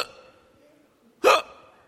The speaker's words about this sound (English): Yeah, did you have the hiccups too? You have the hiccups too?